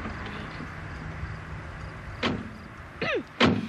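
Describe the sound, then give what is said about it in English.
A door of an old, beat-up truck clunks open with a squeaky creak of the latch, then slams shut a moment later over a low, steady background rumble. “Come on over and get in the truck.”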